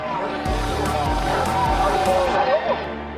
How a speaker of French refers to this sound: Ici à Checkpoint Charlie, c'est une véritable liesse. Les Wartburg et les Trabant, ces petites voitures des Allemands de l'Est, passent sans arrêt le poste de frontière vers l'Ouest. Ils étaient des milliers, ils ont ri, ils ont pleuré.